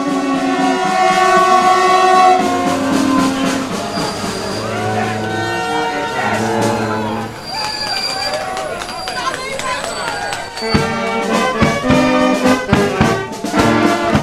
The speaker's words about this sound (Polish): Pani redaktor, oczywiście właśnie prawdopodobnie po raz pierwszy po kilkunastu latach wjeżdża pociąg relacji Warszawa-Żagań.